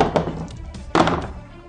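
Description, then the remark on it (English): Dice tumble onto a tabletop in a few sharp, wooden-sounding knocks, with one strong clatter in the middle and a lighter tap at the end, and no voices. “I'm not gonna roll this bad dice.”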